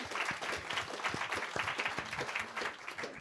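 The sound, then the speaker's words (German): Steady audience applause welcomes a panel guest, a professor at Bucerius Law School, many hands clapping in a dense, continuous patter at moderate volume for a few seconds, with no one speaking over it. “Ein Applaus an dich, ich freue mich sehr, dass du heute da bist.”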